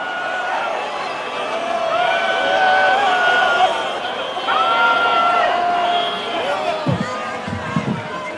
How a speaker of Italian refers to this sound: Come avete sentito, il nome del capo del governo è stato accolto da un'ondata di fischi e ululati di contestazione, con Witkoff che ha tentato due volte di ribadire il ruolo importante che Netanyahu avrebbe avuto nell'arrivare alla firma dell'accordo